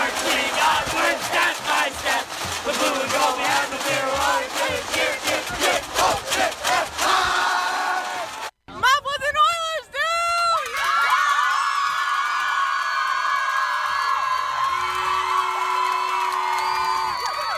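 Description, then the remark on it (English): A student section crowd from Midland and Mount Pleasant at a Friday night football game cheers and chants in loud, rhythmic bursts, then breaks into sustained high-pitched whoops and yelling that keep going without any clear speech. “Now these 2 groups, they always bring the noise.”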